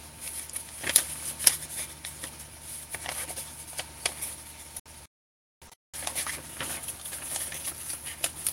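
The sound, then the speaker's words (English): Rustling of paper book pages being turned, with a couple of sharp crinkling snaps early on and softer handling noises continuing around a brief dead-silent gap. “Turning the page right here.”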